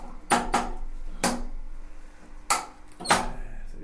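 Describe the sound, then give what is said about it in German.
A female Java macaque monkey named Carla yanks a drawer open and lets it snap shut again and again, five sharp clattering knocks at uneven intervals, with a low hum in between and no talking. “Sie macht die Schublade auf, lässt sie spicken, eifrig, wieder und wieder.”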